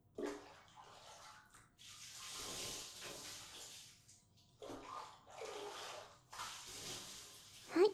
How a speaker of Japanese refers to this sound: その間にママが、バブちゃんの体を洗い流してあげるね。